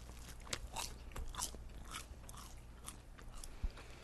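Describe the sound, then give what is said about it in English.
Someone bites into a crunchy homemade pizza, fresh out of the oven, that looks like a New York pizza and is topped with fontina and mozzarella cheese. The bites make a series of crisp, crackling crunches in irregular bursts with one sharper snap near the end. Fairly quiet, with no one talking. “I mean, it looks like a New York pizza. True, but how does it taste?”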